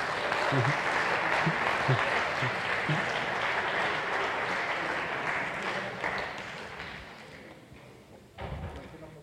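An audience applauds with dense, sustained clapping that holds steady for several seconds, then thins out and tapers off toward the end.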